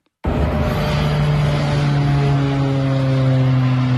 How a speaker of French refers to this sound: Le bruit d'un avion au décollage filmé par un riverain, donc juste au-dessus de son toit.